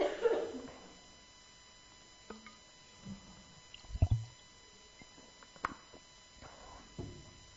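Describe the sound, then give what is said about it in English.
Soft sounds of someone drinking water: a few quiet sips and wet mouth clicks, with one fuller gulp in the middle, set against a hushed background with no talking. “Let's have a drink of water.”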